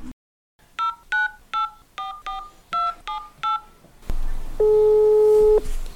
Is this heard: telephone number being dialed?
yes